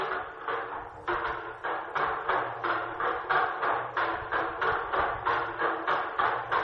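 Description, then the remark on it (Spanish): A wooden bell, a wooden percussion instrument rather than a metal bell, clacks in a steady, rapid rhythm, about three hollow knocks per second, loud and even throughout, with no voices. “Sí, esto que estamos escuchando no son campanas, pero tiene algo que ver también, ¿no?”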